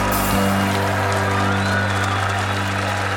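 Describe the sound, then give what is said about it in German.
An audience applauds loudly, a dense, steady wash of many hands clapping that holds for about three seconds, with a low hum underneath and no voices standing out. “Er bittet das Publikum um Applaus. Nun wird geklatscht mit lautem Gebrauch.”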